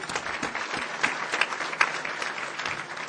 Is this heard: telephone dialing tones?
no